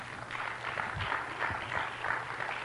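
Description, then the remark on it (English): A crowd of people applauding steadily, a dense wash of many hands clapping at once, even in level for a few seconds, with a faint low hum beneath. “Just give them a clap, will you?”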